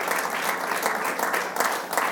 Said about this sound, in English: Give the Lord a hand clap of praise this morning. Amen.